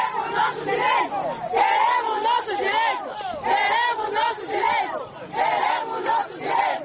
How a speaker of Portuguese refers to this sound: As senhoras lançavam gritos e palavras de ordem à porta da administração municipal.